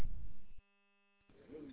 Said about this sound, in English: Yeah, it sounds to me like you've got a Roger beep in there on that particular HT. I don't have one on, but the channel has a couple of them. I think one for the digital side and one for the analog side. Maybe you're hearing one.